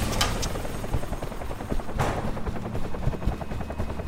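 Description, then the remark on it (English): A helicopter's rotor chops steadily and loudly, a continuous rhythmic thumping with engine whine, broken by a few sharp bursts like gunfire. “help me dump this equipment and make room in the chopper.”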